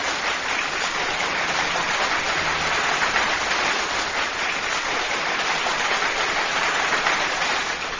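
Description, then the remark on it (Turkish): Steady, dense applause from a crowd, a continuous wash of clapping that stays at an even loudness for about eight seconds with no voices. “Ve sevgili dinleyicilerim, Hababamlar bir numara Menekşe Gülay kalemiyle kocaman bir alkış Menekşe ablam.”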